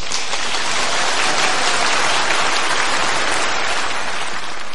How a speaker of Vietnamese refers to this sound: Sư xin một tràng pháo tay.